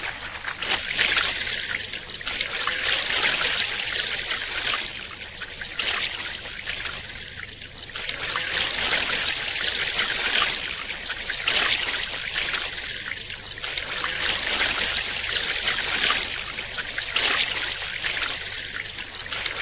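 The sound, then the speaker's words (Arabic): Steady sloshing and trickling of river water as an elephant herd wades across the river to the opposite bank after sunset, in the Chobe River system, with gently rising and falling surges of splashing and no voices. “بعد غروب الشمس تقوم القطعان بالتجمع بهدوء على الضفة وتنساب عبر النهر إلى الشاطئ المقابل.”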